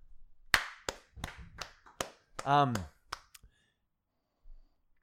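A person claps their hands about seven times in a loose, uneven rhythm, each clap sharp and crisp, with a short drawn-out vocal exclamation cutting in between the claps.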